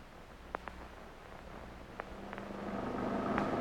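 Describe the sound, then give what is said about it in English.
Steady low engine rumble inside a moving taxicab late at night, a quiet constant hum with a few faint clicks and a gradual rise in road noise toward the end. No one speaks. “You know, someday I won't have to ride in taxicabs.”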